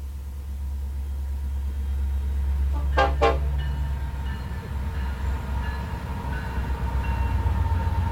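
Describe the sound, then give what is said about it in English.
A freight locomotive horn on an empty taconite train of small, uncovered two-bay hopper cars, with at least three locomotives, gives two quick, short honks over the steady low rumble of the rolling train, which continues loudly on its own afterward. “We got a train to honk.”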